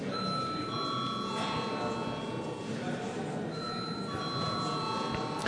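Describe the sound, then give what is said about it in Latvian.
A parliament bell, called for by the chair after deputies request a vote on a bill, rings continuously with a steady, sustained metallic tone that fills the whole stretch, while a low murmur of voices carries on beneath it. “Deputāti prasa balsojumu, lūdzu zvanu.”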